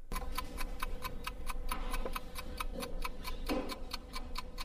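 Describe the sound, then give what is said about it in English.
Steady, rapid mechanical ticking of chess clocks at the largest chess club in Canada, in Scarborough, Ontario, meeting at the Birkdale Community Centre, with a few heavier thuds of buttons being pressed mixed in over a low murmur. No one speaks. “With the sound of the chess clock as the background music, this is the largest chess club in Canada.”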